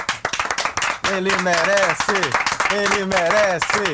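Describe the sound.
An audience claps in a dense, steady patter throughout, while a voice speaks or calls out loudly over the applause from about a second in.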